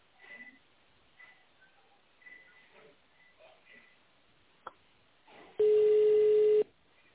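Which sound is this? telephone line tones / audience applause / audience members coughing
telephone line tones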